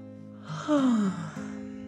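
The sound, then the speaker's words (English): A single drawn-out yawn from a voice, rising into a breathy, falling moan that lasts about a second, set over a soft, steady background hum. “… yawned.”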